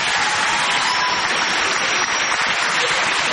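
Sustained audience applause, a dense, steady wash of many hands clapping at even loudness throughout, with no voices standing out above it.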